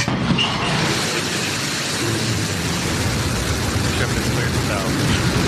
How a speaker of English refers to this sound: Blue Origin's New Shepard rocket blasting off on its way to space with 4 passengers on board.